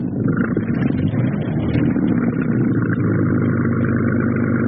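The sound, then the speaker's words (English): A steady, continuous motorized whir drones on without pause, a dense low-to-mid hum with a buzzing edge, from ten Mixmaster electric mixers powering a boat down a river at cruising speed. “These 10 little Mixmasters are doing a beautiful job.”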